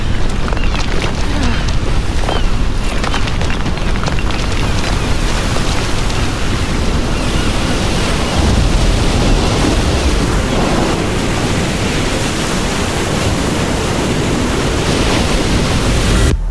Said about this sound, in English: Rogue wave.